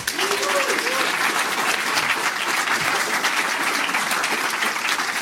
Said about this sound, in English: And I really, really want to thank them, because otherwise we wouldn't be able to set this up at all. So, yeah, I think we can do a big round of applause for the various sponsors.